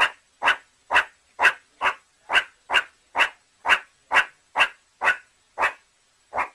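Meerkats at a zoo squabbling over food while eating: a rapid, steady series of about fourteen sharp, bark-like chirps, evenly spaced and fairly loud, with no talking over them.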